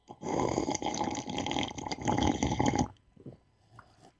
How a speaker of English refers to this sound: Actually, I'm gonna take a sip here real quick. We're gonna take a small little momentary break.